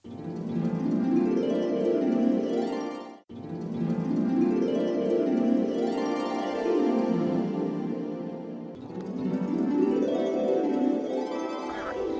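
A dense chorus of frogs croaking steadily and loudly, many overlapping calls forming a constant pulsing drone, broken by two short pauses; no voices.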